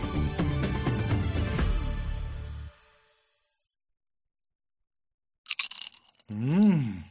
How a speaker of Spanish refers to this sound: De las patatas fritas, me gusta el del sonido. Escucha.